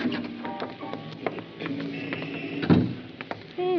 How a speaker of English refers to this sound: Wait till we get outside. Okay. I'll get the door.